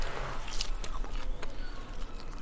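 Someone chews a crisp beetroot leaf, with a few sharp, crackly crunches and softer wet munching in between, over a low steady background hum with no talking.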